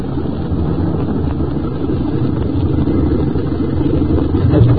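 A car engine rumbles steadily as the car goes a little further and pulls up to stop near a store, a dense low drone that holds level throughout and swells slightly near the end, with no voices.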